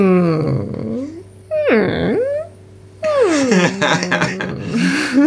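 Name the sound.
whimper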